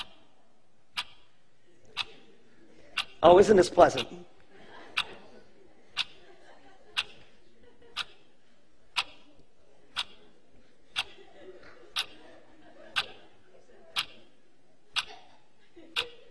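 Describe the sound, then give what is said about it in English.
A clock timer counting down 18 seconds ticks steadily, one sharp tick per second, clear throughout, with a brief burst of someone speaking cheerfully near the start. “start the clock. 18 seconds. Go.”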